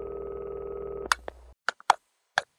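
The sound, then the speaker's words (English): A steady international telephone ringing tone drones over the line of a call to a landline for about a second, then cuts off into a handful of sharp, irregular clicks. No one speaks. “When I call overseas, I don't call Italy, but when I call Bolivia, it's always a different ringtone. It's like an international ringtone.”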